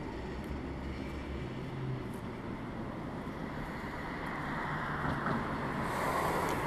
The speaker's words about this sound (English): Yep, send in that car.